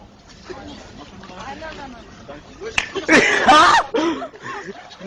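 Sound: slap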